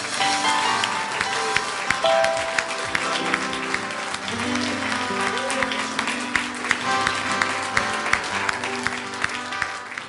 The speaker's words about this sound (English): Why don't we give him a hand clap of praise?